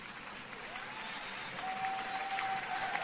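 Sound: rain falling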